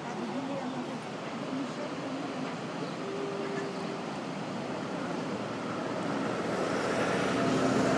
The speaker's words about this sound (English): Down below me is a swift flowing river, probably about 30 meters across. Upstream from here are rapids, the kind of thing that a whitewater kayaker would love, and a weir.